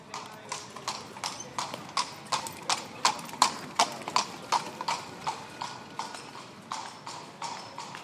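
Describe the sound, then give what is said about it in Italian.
Steady, rhythmic clip-clop of the hooves of horses pulling tourist carriages on pavement in the historic centre of Seville, Spain, a brisk run of sharp knocks, with a faint murmur of street noise behind. “Siamo nel centro storico, affollato di turisti, e molti di loro visitano la città su eleganti carrozze trainate da cavalli.”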